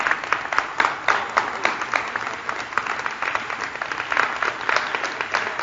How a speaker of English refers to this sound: Can we put our hands together for the Lord?